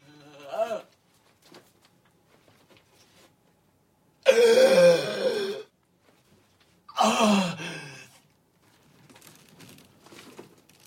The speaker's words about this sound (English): One of the rungs snaps off and the miner plunges to the bottom of the shaft. Gasping with pain, he raises his head off the ground.